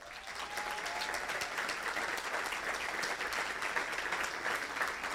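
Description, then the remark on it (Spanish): A crowd at a church gathering claps steadily for several seconds, a dense, sustained patter of many hands at even loudness, with a faint murmur of voices beneath it. “¿Pueden levantar su mano y les vamos a dar un gran aplauso a estas grandes mujeres?”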